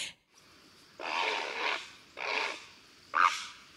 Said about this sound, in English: All right, we have to play a heron call then. Heron.